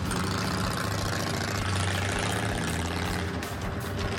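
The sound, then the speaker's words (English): The engine of a newly built motorbike idles steadily while its controls are tested, a low, throbbing rumble with a constant loud drone and faint mechanical rattling, slightly shifting in tone toward the end. “This bike is such a new creation for us that we have to really make sure that it operates properly”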